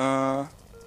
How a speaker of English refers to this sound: You hear the beep on the speakers? It's very quiet.